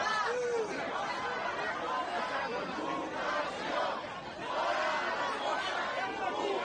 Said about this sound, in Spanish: Gritaban consignas contra la policía como sois terroristas y fuera las fuerzas de la ocupación a su salida.